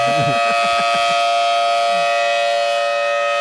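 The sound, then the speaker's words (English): A rotating outdoor warning siren wails loud and steady, its sustained tone ringing with layered harmonics, with brief low murmurs of voices at the start before the siren holds alone. “You only work one day out of the month, uh-huh. and you scream and turn in a circle.”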